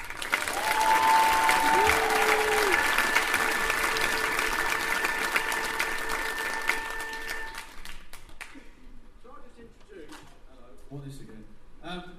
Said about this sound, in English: So, big cheer, please, for ….